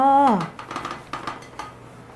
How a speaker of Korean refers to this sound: 그릇에서 소리가 많이 나네. 그렇네요.